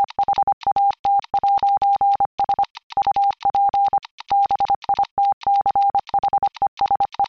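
A steady, fairly loud electronic tone keys on and off in quick short and long beeps, grouped with brief pauses, Morse code spelling out the phrase "What's up, bitches", with no voices.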